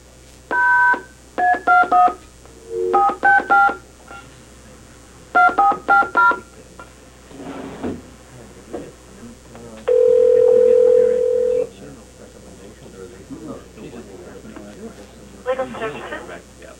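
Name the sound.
telephone dialing tones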